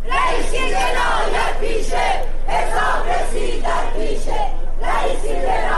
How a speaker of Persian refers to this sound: همزمان با برگزاری دادگاه، بسیاری از شاکیان پرونده و خانواده قربانیان کشتارهای دهه 60 با در دست داشتن پرچم‌ها یا تصاویر قربانیان در مقابل دادگاه تجمع کردند و شعارهایی از جمله علیه ابراهیم رئیسی سر دادند.